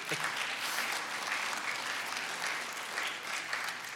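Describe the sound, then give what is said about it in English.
A church audience at a Mother's Day worship service applauds the mothers steadily for about four seconds, a dense, even patter of many hands clapping at a constant moderate loudness with no voices standing out. “We should clap for the moms.”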